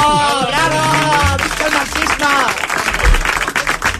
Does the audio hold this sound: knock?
no